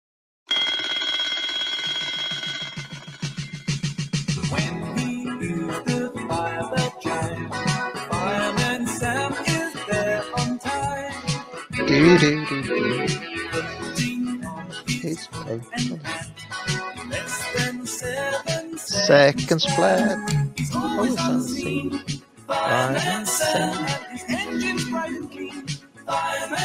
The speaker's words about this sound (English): I happened to have a little listen to the Fireman Sam theme tune. This was about a week ago, and it's been stuck in my head basically every day since. So I really think this is a good theme tune.